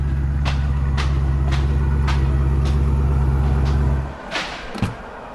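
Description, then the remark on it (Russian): A car passes by with a loud, deep engine rumble and faint regular ticking, holding steady before dropping away abruptly near the end. No one speaks. “Ничего себе машина.”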